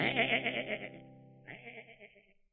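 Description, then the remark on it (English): A sheep bleats twice in quick succession, a long wavering baa followed by a shorter one after a brief break, clear with no one talking. “The children were fascinated by the big black sheep.”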